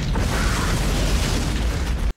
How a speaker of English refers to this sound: You will hear the wildcat sounds through all of the explosions. Does anyone know why? I don't know why, but there's like a lion, a tiger, a puma.